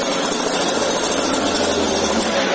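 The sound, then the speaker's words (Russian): An angle grinder cuts through metal in one steady, harsh, high-pitched screech that stays loud for the whole stretch, with no voices. “Камера федерального канала, болгарка, не представившиеся сотрудники правоохранительных органов.”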